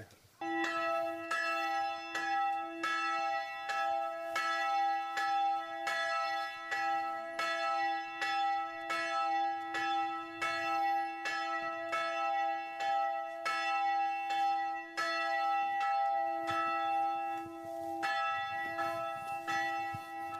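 Church bells in the local community of Donja Kola, rung by a man and a boy, ring steadily and loudly for about twenty seconds, repeated strikes blending into a continuous ringing with strong sustained tones and no voices.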